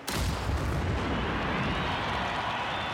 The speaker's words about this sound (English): Soldiers fire a 21-gun salute.